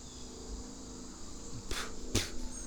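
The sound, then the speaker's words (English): Insects buzzing outdoors at a cliff 2 meters above the water, in a steady, continuous drone, with a thin high-pitched whine over a lower hum, interrupted by two brief rushing swishes near the end. No one speaks. “And some bugs.”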